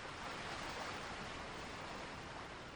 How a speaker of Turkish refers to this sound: Arazın gür dalgası.